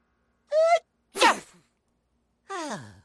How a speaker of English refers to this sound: Sneeze if you have to. Sneeze if you need to.